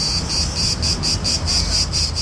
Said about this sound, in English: Cicadas singing, the sound of summer, usually the time for Greeks to chill out and party.